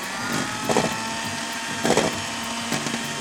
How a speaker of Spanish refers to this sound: El frío es el secreto para lograr esa textura aireada perfecta. Y ahora sí, comenzamos a batir con la batidora a velocidad media.